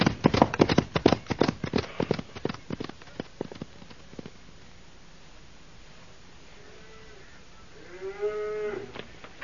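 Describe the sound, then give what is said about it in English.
Hooves clatter in a rapid, uneven clip-clop for several seconds, then a cow from a thirsty herd of cattle lets out a long, resonant moo, with a fainter low call just before it. “Yeah, these cows look mighty thirsty, Bull.”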